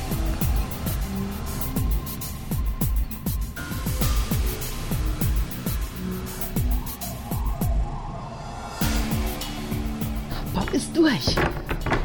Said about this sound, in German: die Eingangsluke von Masterplane schließt sich.